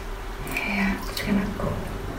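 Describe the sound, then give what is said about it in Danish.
Water runs steadily from a handheld shower head, a continuous splashing hiss with slight gurgling shifts, moderately loud, with no voices. “Du kan altid gøre det, at du lige tager den håndholdte med noget koldt vand i stedet for.”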